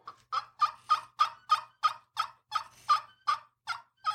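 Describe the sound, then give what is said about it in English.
A rapid, steady run of about fourteen sharp turkey clucks from a handheld turkey call, fairly loud, each one a short clipped note, with no talking over it. “Very turkey. Take it, put it in your hand. You know, but it almost has the bubble cluck”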